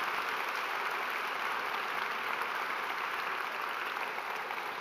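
An audience applauds steadily for the team that leads the children, a dense, even wash of many hands clapping at once that holds a constant, fairly loud level throughout, with no voices rising above it.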